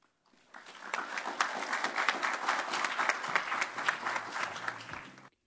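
An audience applauds steadily for about five seconds, a dense patter of many hands clapping at once, rising quickly and holding a fairly even level before stopping abruptly.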